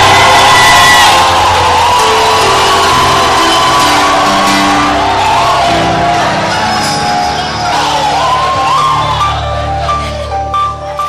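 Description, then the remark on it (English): A large audience shouts and cheers loudly and continuously, a dense wall of many voices with sharp whoops and rising, wavering cries standing out throughout. “And as you are dancing, you are shouting more. As you are shouting, utterance is coming out of your mouth.”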